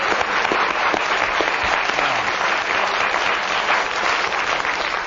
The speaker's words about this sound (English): You can give him a round of applause for what he said.